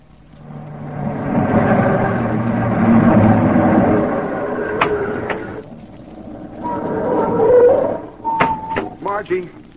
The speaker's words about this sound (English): she's driving off in Simon's car.